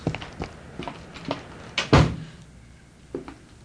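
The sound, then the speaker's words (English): A few light metallic clicks and rattles of a key working the lock of the street door at the Crestview Arms, then the heavy door thudding open, followed by a couple of softer knocks. No voices. “It's lucky they keep the street door locked at night.”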